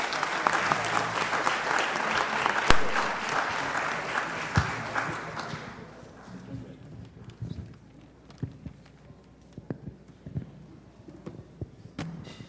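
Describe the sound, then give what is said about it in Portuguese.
A crowd applauds a group of viola players (violeiros) from Espaço Novo Tempo and a singer, with dense, steady clapping for about six seconds, then the applause thins out into scattered claps and faint background noise. “Gostaríamos mais uma vez uma grande salva de palmas ao grupo de violeiros do Espaço Novo Tempo da Sede Senador Flacker e ao cantor Edson.”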